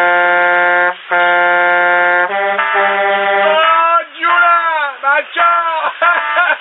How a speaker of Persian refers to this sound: جون من، بذار من یه بوق ممتد بزنم بچه ها رو خبر کنم.